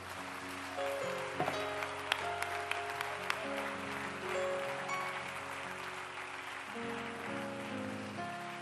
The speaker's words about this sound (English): Welcome to Pentecost at harvest time. Clap your hands and celebrate where we are right now.